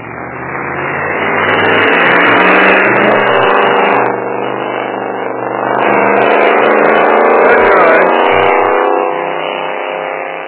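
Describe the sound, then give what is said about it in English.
A truck engine runs loud in the morning, rising into two long revving swells with a rough, droning roar that eases briefly between them and fades slightly at the end. No voices. “Wasted more gas in that truck this morning, probably, than that truck is actually worth.”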